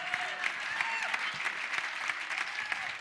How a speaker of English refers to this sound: You're clapping like that's not a lot of money, y'all. Come on.